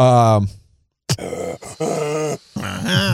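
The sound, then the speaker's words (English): A preacher lets out loud, heavy gasping breaths, harsh and grunt-like, recurring in a steady rhythm between stretches of strained vocalizing. “Church clips, combo platter, praise team reminding you to move your car, and the preacher with the breathing issue.”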